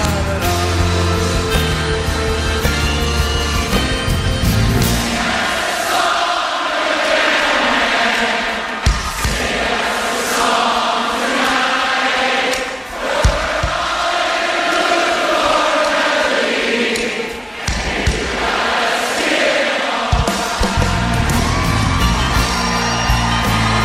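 A loud live concert crowd whoops and yells over steady music while the audience claps along in time with the drummer, sharp percussive hits cutting through the dense roar for the whole stretch.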